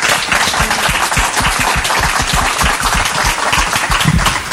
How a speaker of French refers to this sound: Terence, on peut l'applaudir, Rebecca Anton.